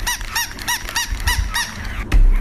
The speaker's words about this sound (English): you can wind it up or whatever, and it sort of crawls across the table or whatever flat surface you've got it on, and it yaps